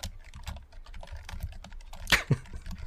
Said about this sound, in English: Stop rage typing